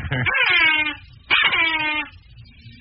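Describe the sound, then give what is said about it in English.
Two long, loud horn toots, each about a second, with a reedy, wavering, bleat-like tone; a third toot begins right at the end, sounded five minutes before midnight on New Year's Eve. No one speaks. “Three long toots on the horn.”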